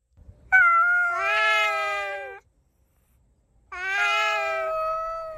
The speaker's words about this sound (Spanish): Los felinos terminaron dominando todo el vecindario. Cada noche se peleaban ruidosamente por su jerarquía social. En periodo de celo se oían los característicos chillidos de los gatos, sobre todo el maullar de los gatos en noches de lluvia